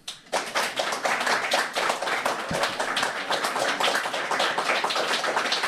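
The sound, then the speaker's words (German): Sustained applause from many hands, a dense, steady wash of clapping that starts abruptly and continues at an even, fairly loud level with no voices. “Kommt immer geklatscht, ja, ja, normalerweise ja, aber du weißt, dass das ein Podcast ist im Normalfall.”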